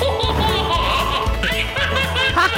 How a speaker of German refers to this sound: Ich freue mich immer wie dieses Baby, was da jetzt lacht.